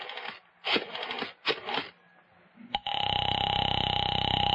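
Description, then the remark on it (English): A telephone call is placed to a girl's father: three short bursts of clattering dialing noise, a sharp click, then a steady, buzzing ring tone that holds on loudly to the end, with no voices. “All right, young lady, I'm calling your father.”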